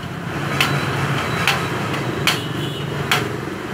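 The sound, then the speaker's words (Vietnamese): Four sharp metallic hammer taps on the stiffened lock ring of a door lock, struck counterclockwise to loosen it, evenly spaced about a second apart, ringing out over a steady background hum with no talking. “Thường thường thì khóa lâu ngày á, cái vòng này nó bị cứng, thì các bạn sẽ gõ, các bạn gõ ngược với kim đồng hồ, ngược chiều kim đồng hồ.”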